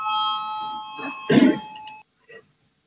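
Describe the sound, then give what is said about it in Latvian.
A steady electronic voting bell chime in a parliament, rung to call a vote, rings for about two seconds with a clear, sustained tone, joined midway by a brief clatter, then cuts off, followed by a faint short sound. “Lūdzu, zvanu, balsosim par piekto iekšlietu ministra Ģirģena priekšlikumu.”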